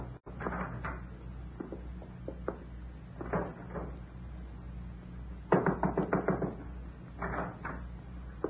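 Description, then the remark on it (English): A door is worked open and shut, with a string of wooden clunks, latch rattles and knocks in bursts. A steady low hum runs underneath, and no one speaks. “I didn't mean to close the door in your face.”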